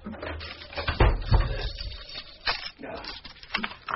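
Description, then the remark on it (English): A run of many bolts being slid and locked on a front door, several sharp metallic clunks and clacks at uneven intervals, with faint rattling and shuffling in between. “You seem to have an inordinate number of bolts on your front door.”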